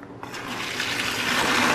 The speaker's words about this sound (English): So the rice is boiled for about 10 minutes and all the little rice grains have sucked up that water. Just strain away the excess water.